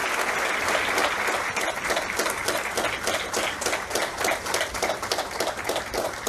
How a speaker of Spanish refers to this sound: Hermano, yo los invito a que la recibamos con un fuerte aplauso.